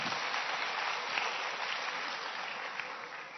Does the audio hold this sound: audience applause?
yes